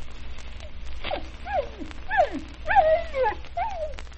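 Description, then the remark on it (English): Dogs, a Pekingese and a Scottie terrier, whimper and yip in a rapid series of high, wavering whines, each rising then sliding down in pitch, fairly loud with no talking. “You ever hear dogs talk? Well, now, you listen to Wee Lass Pekingese and Scotty Terrier.”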